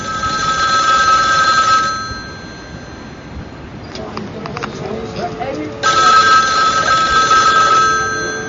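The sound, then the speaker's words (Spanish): A telephone rings loudly in two long bursts separated by a pause of a few seconds, with faint movement or muffled voices in the quiet gap. “Dile que coja el teléfono.”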